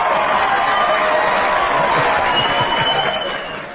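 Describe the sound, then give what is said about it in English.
A group of people clapping, a dense, steady patter of many hands with no voices standing out, holding level before tapering off at the end. “Listen, when you have people clapping when you're done, that could go either way.”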